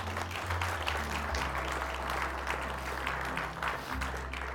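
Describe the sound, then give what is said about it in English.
A large crowd applauds steadily for new Christ followers after a prayer of commitment to Jesus, a dense continuous patter of many hands clapping with no pauses, while a low hum sits underneath throughout. “Let's give a round of applause for our new Christ followers.”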